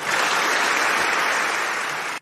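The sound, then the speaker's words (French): Loud, sustained applause from French parliament members, applauding Simone Veil's fight and cause, fills the space as a dense, steady wash of clapping that holds evenly for a couple of seconds before cutting off abruptly. “messieurs les parlementaires, 50 ans plus tard, sous le regard de la famille de Simone Veil, que la force de vos applaudissements pour son combat et pour sa cause tonne plus fort encore que ses insultes et fasse définitivement justice à Simone Veil.”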